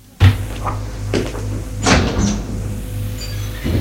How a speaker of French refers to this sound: Une porte qui claque.